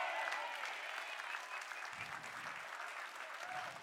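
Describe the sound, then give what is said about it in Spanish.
An audience applauds steadily, a dense wash of many hands clapping at an even, loud level for several seconds with no pauses or voices standing out. “Si usted le va a dar ese aplauso, déselo fuerte para que los criticones chismosos se despierten y sepa que se va a levantar una iglesia limpia del pecado de la boca.”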